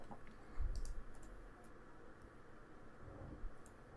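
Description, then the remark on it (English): Faint, sparse clicks from an RGB LED gaming mechanical keyboard, a few scattered keystrokes tapping over a low background hiss with no talking. “What about the $500 RGB LED gaming mechanical keyboard for Pro Overwatch eSport clips?”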